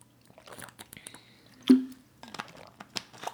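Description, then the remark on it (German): A drink being sipped: soft wet mouth clicks, then one louder slurping gulp midway, followed by a few quiet swallowing and lip sounds. No one speaks. “Erstmal trinke ich einen Schluck, dann gebe ich einen Tipp und dann trinke ich noch einen Schluck.”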